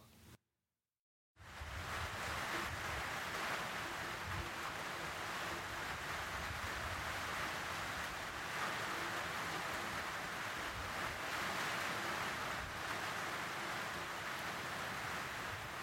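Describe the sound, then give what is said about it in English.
Heavy rain in Woolvi pours down in a steady, dense hiss that starts after a brief moment of silence and continues evenly and loudly, with no voices. “When it rains heavily in Woolvi, Beenham Valley Road becomes boggy.”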